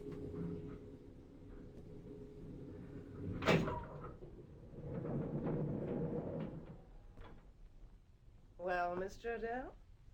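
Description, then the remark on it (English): The doors of a self-operating lift rumble and slide shut with a sharp clunk at the end, followed by a low grinding rumble, then a brief voice near the close. “The lift's self-operating. Press the button marked 4. The marvels of modern science. Okay, you can close the doors.”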